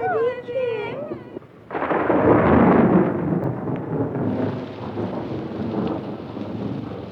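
thunder

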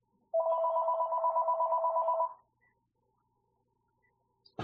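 phone ringing

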